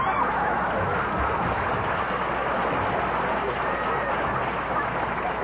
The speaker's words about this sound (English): Please. Don't applaud, please. It brings the dust down from the balcony.